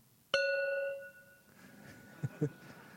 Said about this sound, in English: But finally the sweetest sound he'd ever heard, the sound of the gong.